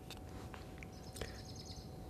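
A bird calls faintly as it flies past: a few thin, high chirps and a short twittering run, over a quiet steady background hiss with no one talking.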